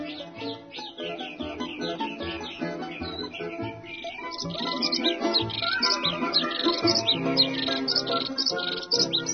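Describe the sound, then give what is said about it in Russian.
A busy chorus of birds chirps and sings without pause, many quick overlapping calls, getting a little fuller midway, over a steady low background hum. “Голоса всех птиц понимал колобок, и они понимали его, и очень любили за веселый нрав.”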